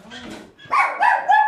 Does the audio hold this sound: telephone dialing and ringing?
no